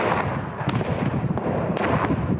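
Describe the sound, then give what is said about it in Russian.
Gunfire crackles in irregular bursts during a special forces storming of a building where hostages are held, at 5:30 in the morning, several sharp reports standing out over a dense, continuous wash of shooting and rumble, with no voices. “Еще не стихла стрельба, а обезоруженные сотрудники службы спасения уже выносят из здания заложников.”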